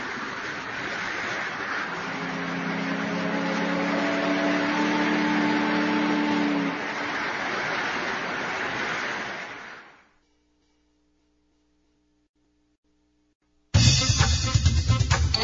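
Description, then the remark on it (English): A motorboat runs steadily with a low engine hum over a broad rushing wash of water, then fades away to near silence before an abrupt, different loud noise begins at the end. “You can go on a boat.”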